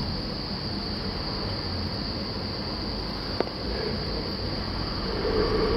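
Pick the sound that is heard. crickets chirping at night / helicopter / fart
crickets chirping at night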